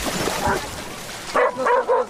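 Several dogs bark in quick succession, a cluster of sharp yips and woofs after a softer earlier bark, at an outdoor public swimming pool in Berlin, Germany, in the late afternoon, where dogs are let into the pool, with faint voices of people in the background.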